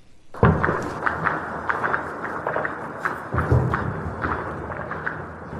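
Irregular bursts of gunfire crack and thud over a dense, rumbling background in Khartoum, Sudan, on a Monday afternoon amid fighting around the army headquarters and presidential palace, the shots echoing as if bouncing between buildings, some heavier than others, with no voices.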